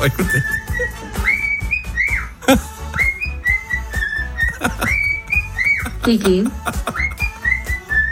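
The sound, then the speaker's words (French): A pet bird named Kiki whistles a tune at 7 o'clock in the morning, a string of clear, high melodic phrases with sliding rises and falls and pauses, loud and steady over a low murmur of background sound. “Ah oui, j'ai trouvé le petit oiseau qui fait le buzz sur les réseaux sociaux.”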